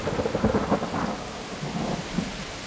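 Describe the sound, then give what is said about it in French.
A thunderstorm with low rumbling thunder rolling under a steady wash of heavy rain, dense and continuous throughout, with no voices. “Ils étaient là depuis un certain temps, déconcertés par la violence de l'orage”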